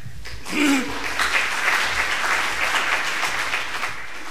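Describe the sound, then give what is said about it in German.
Audience applause swells quickly and holds as a steady, dense wash of clapping for several seconds, welcoming a speaker about to begin a talk, with a brief vocal sound at the start and no clear speech. “Einen warmen Applaus.”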